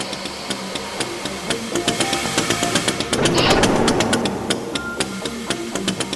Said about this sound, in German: Industriegeräusche, die … zur Musik zusammenmischt.